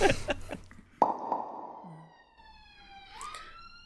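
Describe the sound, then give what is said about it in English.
An ambulance siren wails outside, its tone holding steady and then sweeping upward near the end, after a few sharp knocks and clatters at the start. “Sorry, I'm just waiting for the ambulance or whatever it is.”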